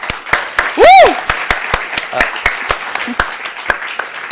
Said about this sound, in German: Ein Applaus bitte für Sie.